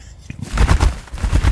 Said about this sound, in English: It's still one of my favourite recordings, the birds of Capercaillie. It's a bird of the Highlands of Scotland.